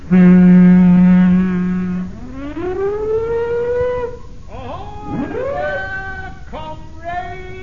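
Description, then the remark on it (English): A ship's siren blares a loud, low, steady horn tone for about two seconds, then its pitch slides upward and wavers through several bending, bleating swells. “Sound our siren, Chief.”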